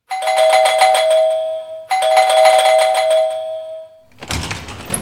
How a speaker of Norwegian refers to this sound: Han ringer på, og en kvinde åbner døren.